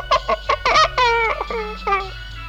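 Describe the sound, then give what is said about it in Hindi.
A hen clucks: a quick run of short, choppy bursts, then longer drawn-out wavering calls, loud and clear with no other sounds around them. “अंडों पर बैठे? सेठ जी मुर्गी है क्या?”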